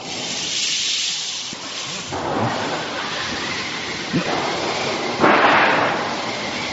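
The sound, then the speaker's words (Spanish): Staged thunder made by shaking a metal sheet, with a few rumbling crashes rising over a steady, loud hiss of rain-like noise made by moving rice in a wooden tube, as a sound-effect storm with rain and strong wind; no one speaks. “pero de pronto viene una tormenta con lluvia y viento fuerte.”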